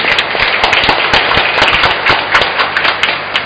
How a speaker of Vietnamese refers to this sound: Trong niềm vui đó, chúng ta hãy chúc mừng nhau một tràng vỗ tay thật lớn.